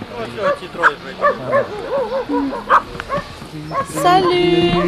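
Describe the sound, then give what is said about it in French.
Several dogs bark and yip in quick, uneven bursts in front of a shelter, with some whimpering and a sustained whine toward the end, and people's voices mixed in. “En remuant la queue, des chiens font leur apparition devant l'abri.”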